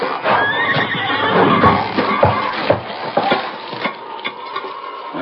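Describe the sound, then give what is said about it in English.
A horse neighs and whinnies loudly and repeatedly as it pulls on a tightly tied rope to drag jail bars out, over a busy backdrop of scraping, straining noise and a few sharp knocks. “Silver, pull bars out.”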